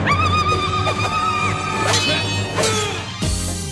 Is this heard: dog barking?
no